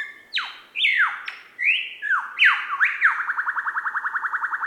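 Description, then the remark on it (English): A superb lyrebird call: a loud run of varied ringing whistles and swooping downward notes, ending in a fast, even string of repeated metallic pulses. No one speaks. “How can you not be enchanted by the lyrebird?”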